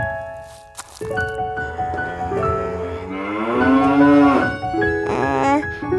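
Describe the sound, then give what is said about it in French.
A calf moos in a long, rising and falling bellow, with a shorter second call near the end, with no talking. “Seul un veau se présenta à Bébé Mouillette en mugissant.”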